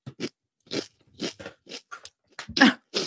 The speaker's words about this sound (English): People who have like hearing who are sensitive to sounds are going to hate how closely I'm chewing to the mic. You're leaning into the microphones to chew these.